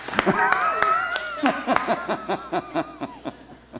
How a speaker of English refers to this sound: And so today, clap, give yourselves a hand for making it through all those amendments yesterday and all that math.